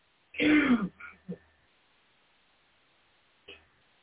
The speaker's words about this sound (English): pardon me, clear my throat.